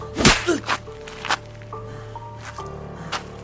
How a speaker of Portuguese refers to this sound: O segundo tapa é tão forte quanto o primeiro.